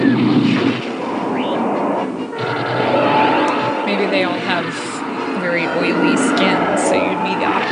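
TIE fighter fly-bys: loud, continuous roaring with repeated shrieking, scream-like whines that sweep up and down in pitch as the craft pass, over a dense rumbling, engine-like din.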